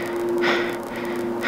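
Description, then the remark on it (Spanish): Soft breathing over a phone line from a caller who gives no answer, two slow breaths standing out above a steady hiss and a low electrical hum, quiet, with no one speaking. “No hubo respuesta, solo su respiración.”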